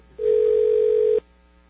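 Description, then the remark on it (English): A single steady telephone ringback tone from a call to a general manager sounds for about one second, clear and fairly loud, then cuts off abruptly; no voices are heard. “It's ringing someplace else.”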